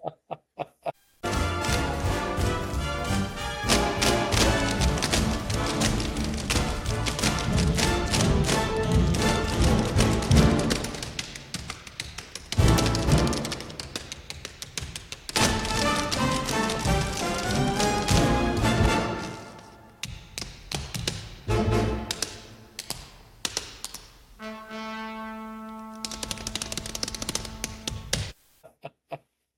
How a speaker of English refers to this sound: I just want to hear tap dancing. Let's just play part of the finale of 42nd Street.